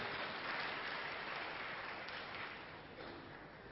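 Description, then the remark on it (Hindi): A crowd claps steadily to welcome a speaker arriving for a session, a dense, continuous patter of many hands with no voices, tapering off slightly toward the end. “हम तालियां बजाकर आपका स्वागत करते हैं.”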